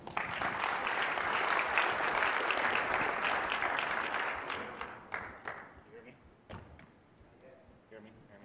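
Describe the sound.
A crowd applauds loudly and steadily for about five seconds, then the clapping thins out into scattered claps and fades, with a few murmured voices at the end.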